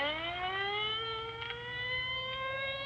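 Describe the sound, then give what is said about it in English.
An ambulance siren wails steadily as the ambulance goes past at dusk, its tone gliding slowly upward as it sounds continuously and fairly loud for the whole moment, with no voices over it. “Well, there goes the ambulance.”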